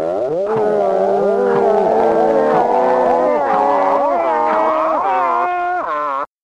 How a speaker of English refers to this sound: the often heard sound of the scrap metal van driving around. Giving the noise to people to come out and hand over their scrap metal.